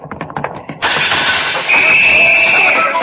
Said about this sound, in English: That big window in front, Logan? Yeah, watch out for flying glass